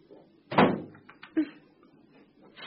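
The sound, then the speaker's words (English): A door swings shut behind someone leaving, with a loud, resonant thud that rings briefly, followed by a smaller click about a second later, then quiet low background noise. “The minute you closed the door behind you, it was awful.”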